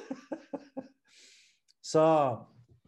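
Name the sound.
yawn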